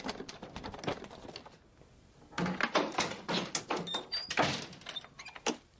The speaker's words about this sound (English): I know it sounds crazy, but the door won't open.